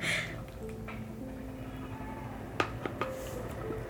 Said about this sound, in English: And I'm just gonna grab some water because I've been talking forever.